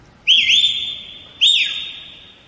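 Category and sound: a person whistling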